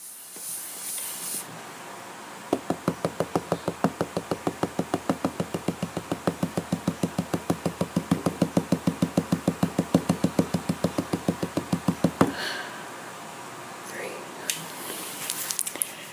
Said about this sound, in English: It is 8:26 p.m., and that was the first of many knocking rituals I have at night. I have to do this again at 9:26, then again at 10:26, and if I'm still awake, again at 11:26.